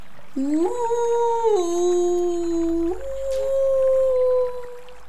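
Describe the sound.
A voice imitates whale song to show how to speak whale, with a long, tonal moaning call that rises, holds, then steps down and drifts across several seconds, steady in loudness.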